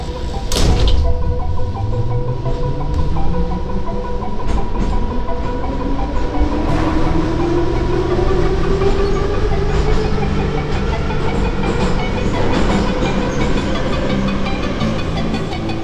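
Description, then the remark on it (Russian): A subway train car rumbles steadily along the rails, loud, its motor whine rising in pitch as it picks up speed, with faint rhythmic clatter underneath. “Я в метро отлюблено, до Красносельской прихожу, с ветки на ветку, королева всей подземки, мой дворец самый большой на свете.”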